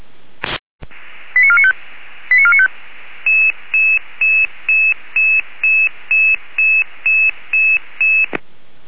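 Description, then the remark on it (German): Radio dispatch alerting tones for a Red Cross Saale-Holzland rescue unit call to Altendorf, over steady radio hiss: a click, two short warbling tone bursts, then a rapid, evenly spaced run of about a dozen beeps, loud, with no talking. “Beim Land mit Alarmierung.”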